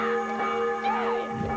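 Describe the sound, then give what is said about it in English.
A little hand bell rings with a bright, sustained metallic tone, its shimmering overtones lingering steadily for a moment, moderately loud, with no talking. “I just ring this little bell.”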